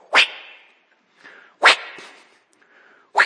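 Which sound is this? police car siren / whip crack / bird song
whip crack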